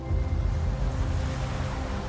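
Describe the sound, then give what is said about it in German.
A steady, gentle wash of ocean surf, a continuous soft rush of water with a low rumble underneath, holding an even level throughout with no voices. “Die Wellen fließen sanft zu deinen Füßen hin.”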